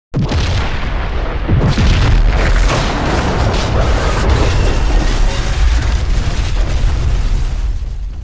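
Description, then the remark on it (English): A plasma grenade explosion, heard from outside, bursts in abruptly and keeps roaring, a dense, rumbling blast with heavy low-end boom that holds steady at full intensity for about eight seconds without fading. “And you just from the outside, we just hear the explosion.”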